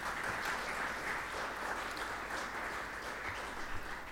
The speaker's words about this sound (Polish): Oklaski dla wszystkich.